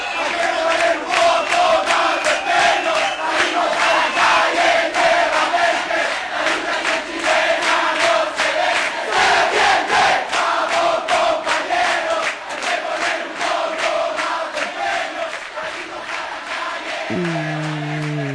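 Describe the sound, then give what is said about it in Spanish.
A large crowd of students in Chile chants protest slogans in loud, rhythmic unison, with sharp repeated beats like clapping or drumming driving the cadence throughout, and a brief tonal sound near the end. “Con estos gritos de rebeldía y de protesta y de lucha y resistencia de los estudiantes de Chile, nos vamos despidiendo.”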